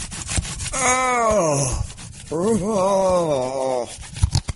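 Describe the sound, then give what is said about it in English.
A slipcover sliding off the disc case of a physical copy of The Void: two drawn-out rubbing squeals, each over a second long, with a wavering groan-like pitch and a brief pause between them, and no talking. “So anyway, and it has a slip cover. Listen to this. Slipcover porn.”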